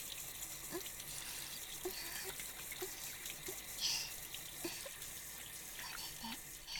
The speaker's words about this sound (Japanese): 泡を洗い流して、シャワーのお湯、先っぽに当てられる。